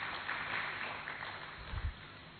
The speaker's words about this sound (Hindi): एक बार अपने लिए भी जोरदार ताली बजा दीजिए।